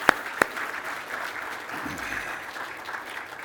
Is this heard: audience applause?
yes